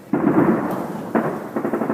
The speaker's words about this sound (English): Outside, the streets were overflowing with debris and garbage, and in the background was the constant sound of gunfire and shelling.